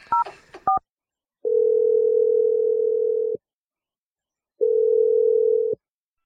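A few quick touch-tone beeps of a number being dialed, then two long, steady ringing tones separated by a short pause, clear and close with no voices.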